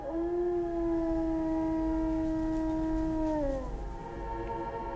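A lone wolf howls in one long, steady note that slides downward near the end, loud and clear over a faint low rumble, with no voices.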